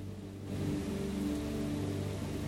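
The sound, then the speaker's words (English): Heavy morning rain pours down in a dense, continuous hiss over a low rumbling undertone, under dark storm clouds over tree-lined ridges in the Harz region, swelling slightly after a quieter first half-second and holding even throughout, with no voices. “The rain falls as heavily in the mornings as at any other time, Mother Nature's intent signaled by the dark storm clouds drifting ominously over the tree-lined ridges.”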